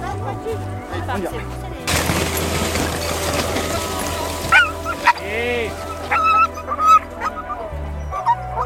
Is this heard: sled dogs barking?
yes